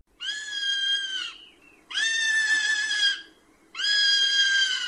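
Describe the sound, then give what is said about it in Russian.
A common buzzard gives three loud, drawn-out mewing cries, each lasting over a second and separated by short pauses. The calls are high and clear, with no voices. “Громкий тягучий крик этой птицы немного похож на кошачье мяуканье.”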